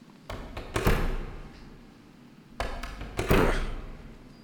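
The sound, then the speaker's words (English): Doors being shut one after another: a quick run of solid thuds and clunks, a pause, then a few more, with no talking. “versus the Doors, evening one. I'll just shut them all as a beginning.”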